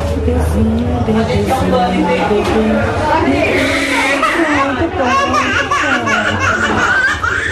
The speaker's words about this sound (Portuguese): Mas não tem jeito. O tradicional chororô é a trilha sonora dos postos de vacinação. A dor é na hora, mas o benefício dura muito tempo.